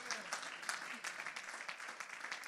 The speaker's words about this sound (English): Let's give that hand clap to the Lord, for he's worthy. He's worthy, church. He's worthy today.